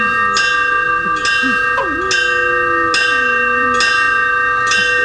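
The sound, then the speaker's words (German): An old metal bell cast in 1896, at an old lighthouse, is struck with a hammer six times at a steady pace as an emergency signal, each clang sharp, its bright ringing tone sustaining between hits over a faint low voice. “Schlag die Glocke mit dem Hammer rum.”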